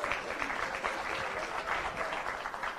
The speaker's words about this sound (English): And so we'd like to thank you and give yourselves a big round of applause for being here in this audience.